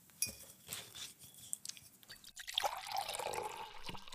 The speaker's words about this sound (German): Irgendwas zu trinken? Kaffee, Tee, Wasser? Ein Wasser nehme ich gerne. Wasser? Okay, mache ich auf.